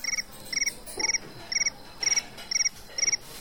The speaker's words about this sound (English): Meantime, crickets are toasting in an oven. An iPhone timer goes off.